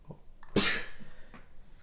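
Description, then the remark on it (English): A person sneezes on a dog, a single loud sneeze bursting out suddenly, a sharp explosive blast followed by a quick breathy fade, with faint rustling before and after. “I totally just sneezed on your dog.”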